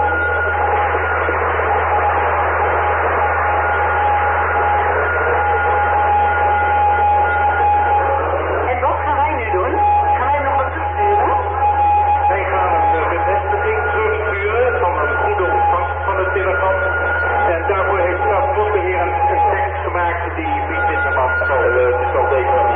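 Morse code tones from the telegraph radio link between Radio Kootwijk and Maarten, steady high-pitched beeps that start and stop over a dense, crackling radio noise with a low, constant hum beneath.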